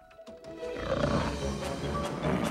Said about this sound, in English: It has eyes and it growls menacingly.